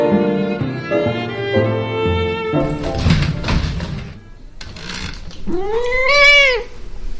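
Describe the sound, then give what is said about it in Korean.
A grey tabby cat named Nala meows several times, starting with a series of drawn-out, harmonic cries, then a scuffle of thumps and rustles, and ending with one loud, rising-and-falling meow. “회색 얼룩무늬 고양이 날라는 빈 상자들을 무척 좋아합니다.”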